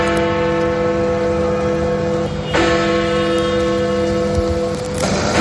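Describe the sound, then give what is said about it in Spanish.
A large clock tower bell tolls slowly, each heavy strike ringing out with a long, humming resonance that overlaps the next. It is loud, with no voices. “Claro, esta es la campana de un reloj, ¿no? Normalmente estas funcionan de forma automática.”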